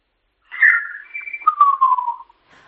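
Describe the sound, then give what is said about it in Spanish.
A single person whistles their own name in Silbo Gomero, a whistled language, as a short, clear phrase with sliding pitch contours: a rising-falling opening, a steady held tone, then a long gliding descent. “Yo lo puedo decir hablando … o lo puedo silbar.”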